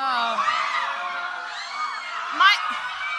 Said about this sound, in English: Can we have more of the moans and screams?